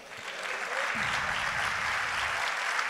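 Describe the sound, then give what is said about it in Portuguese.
An audience applauding: dense, steady clapping from many hands that swells in the first second and holds at full strength, with some faint voices mixed into the noise. “Você pode aplaudir?”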